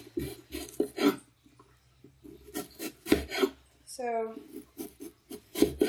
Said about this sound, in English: Now I'm just gonna dice the onion.